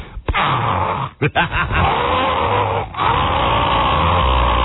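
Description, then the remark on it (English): A person imitates a house smoke alarm with their voice, holding a loud, buzzy, strained tone with a few short breaks near the start and a brief pause before it resumes steadily. “Meanwhile, while this is going on, I hear from inside my house, smoke alarm.”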